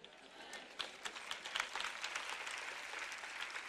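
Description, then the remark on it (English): A crowd applauds in a dense, steady wash of overlapping claps with a few sharper hand claps popping out, holding at a fairly quiet, even level throughout. “I want you to, you know, it's not even about the clapping so much as I just want you to get that.”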